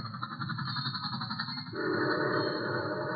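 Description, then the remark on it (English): A troop train carrying about 1,000 soldiers rumbles steadily with a shrill, sustained whistle held over the clatter; the noise swells partway through and stays loud and continuous, with no voices. “There goes the troop train.”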